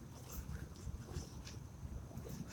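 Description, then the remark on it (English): A faint, steady low roar of an airplane engine flying very high overhead, passing slowly from behind and to the right, droning continuously with a soft rumbling texture, while brief airy hisses flicker in and out above it. No one speaks. “I hear the distant roar of the plane's engine from behind me to my right, slowly coming over me, very, very, very high up.”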